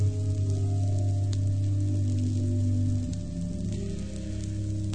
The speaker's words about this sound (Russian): Постепенно дождь превратился в бурю и наводнение. Вода с ужасным шумом хлестала по крыше ковчега, а дождь все лил и лил.